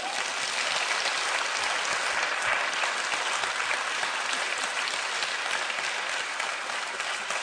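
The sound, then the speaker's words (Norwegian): Steady audience applause for a woman standing before them, many hands clapping in a dense, even wash that holds at a constant level for several seconds with no voices over it. “Du skal få en klapp bare for at du står der.”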